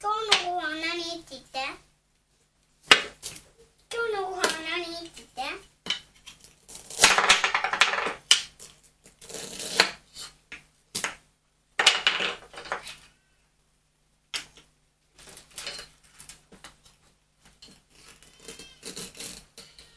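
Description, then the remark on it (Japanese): Light clattering and knocking of small toy pots and utensils comes in scattered bursts as a child pretends to cook a meal, after the child's high voice speaks briefly at the start. “ご飯作るの。”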